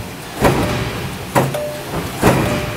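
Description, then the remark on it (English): A 200-ton press in a building, running automotive parts (an aluminum bracket), stamps in a steady rhythm, three loud thudding impacts about a second apart, each with a metallic ring, over a constant mechanical hum. “What's the loud one that sounds like a dragon stomping? Okay, that's our 200-ton press in the middle of this particular building.”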